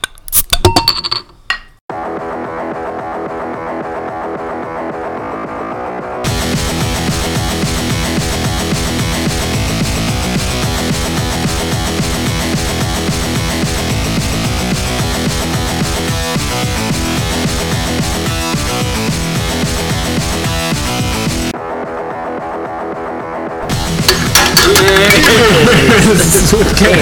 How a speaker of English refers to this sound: Cheers with cans. Cheers with cans.